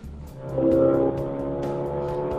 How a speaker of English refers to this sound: The racing, huge, powerful engine. It's cool. I like it. He has a turbocharged 2-liter engine with 370 horsepower